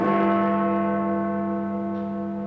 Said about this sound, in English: The noonday toll of Big Ben's bells began 2 minutes of nationwide silence across Britain, broken by the fanfare of trumpets.